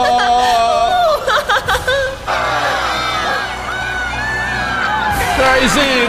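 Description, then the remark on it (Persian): A crowd cheers and whoops loudly and continuously for Daisy Koka, a competitor at the world games, with high shouts rising over a dense roar of voices and a few brief bursts near the start. “دیزی رو تشویق کنید.”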